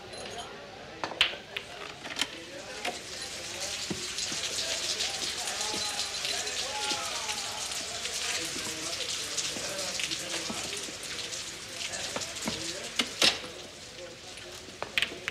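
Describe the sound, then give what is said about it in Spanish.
Steady rain falls, a dense hiss with scattered sharp drips and splashes popping out of it, while indistinct voices murmur faintly underneath. “Casino de Jerusa, don Rodrigo entra mojado por la lluvia.”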